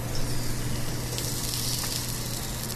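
A steady, crackling sizzle of organically raised, free-range chicken from Plum Creek Farms frying in a hot skillet in the kitchen of the Hub Cafe in Lincoln, Nebraska, with broad hissy noise and faint pops over a low, constant hum, no voices.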